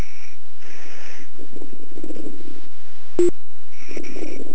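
Muffled background noise over a telephone line from a phone that has been laid down while someone talks on a different phone, with faint intermittent high tones, low rumbling murmurs and a sharp click partway through, fairly quiet and with no clear speech.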